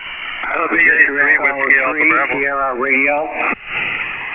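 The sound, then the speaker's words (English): Two voices talk over each other on a narrowband amateur radio channel during a check-in net, their transmissions colliding in a garbled overlap, with a brief drop near the end before the crackling signal resumes. “All right, I had a double there.”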